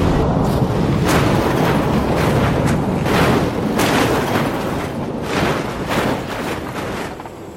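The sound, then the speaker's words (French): A loud, sustained explosion of unknown origin that seriously damages a UAC all-terrain vehicle patrolling the surface of Mars rumbles through the whole stretch, with a string of sharp blasts and crackling bursts erupting over dense, roaring low-end noise. No voices are heard. “Quand il y eut une explosion d'origine inconnue qui a sérieusement endommagé le tout-terrain.”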